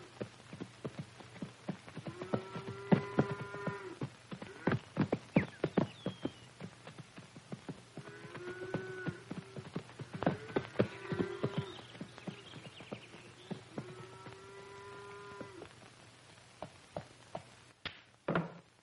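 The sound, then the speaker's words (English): Horse hooves clip-clop steadily in an irregular trotting rhythm as a girl on horseback rounds up cows in the late afternoon to drive them back to the farm for milking, interrupted now and then by several drawn-out animal calls, with no talking. “Shirley has learned to handle her horse with the assurance of an expert.”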